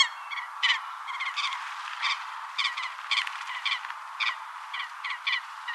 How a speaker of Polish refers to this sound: Głos łyski również brzmi zupełnie inaczej niż kwakanie.